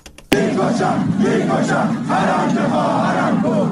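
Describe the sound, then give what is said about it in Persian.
A large crowd in Fooladshahr, Isfahan, Iran, gathered at the fortieth-day memorial ceremony for Mahsa Mogoei, shouts and chants together in a dense, sustained roar of many voices, with rising and falling vocal swells that continue steadily after a brief quieter start. “در فولادشهر اصفهان نیز جمعیتی انبوه در مراسم 40 مهسا موگویی گرد آمده بودند.”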